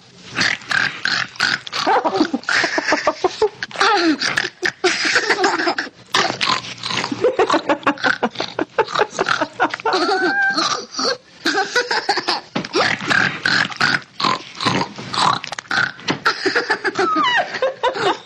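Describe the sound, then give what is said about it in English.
A boy imitates a pig eating at a trough, with a steady, loud run of wet grunts, snorts and snuffling oinks for the whole stretch, broken here and there by snickering laughter. “Show mommy how the piggies eat.”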